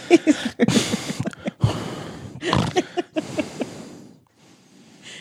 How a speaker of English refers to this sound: He's really breathing into this.